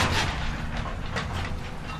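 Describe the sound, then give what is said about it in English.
Heavy machinery rumbles steadily as an excavator tears down a tornado-damaged house in Rowlett, just outside a family's front door, with a deep low drone and scattered crunching, cracking bursts over about two seconds and no voices. “a rumble can be heard just outside their front door.”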